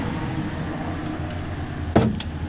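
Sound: car driving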